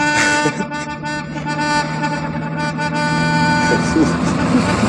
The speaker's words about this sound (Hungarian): Csak nyomorgasd, öreg! Csak nyomorgasd azt a dudát!